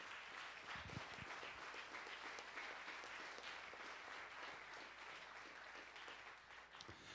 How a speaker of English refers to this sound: So congratulations, and perhaps a round of applause again